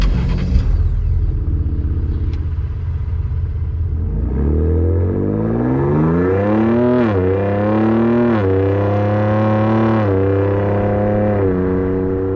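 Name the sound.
pickup truck engine revving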